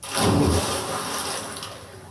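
A loud watery splash bursts in at once as dogs jump into their small pool, then churning, sloshing water keeps going and slowly settles over about two seconds, with no voices.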